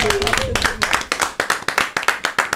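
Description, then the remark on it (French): A TV show audience claps loudly for a performer, starting as a dense burst of applause that quickly settles into steady, rhythmic clapping in unison. “Est-ce qu'on peut l'applaudir encore?”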